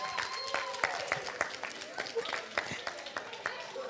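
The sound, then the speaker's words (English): An audience applauds Team 6 with dense, steady clapping of sharp overlapping claps, with a few voices calling out underneath, moderately loud throughout. “Let's give a round of applause for Team 6.”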